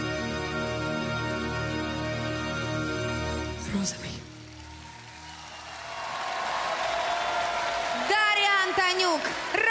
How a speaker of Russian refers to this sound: Зал взрывается овациями.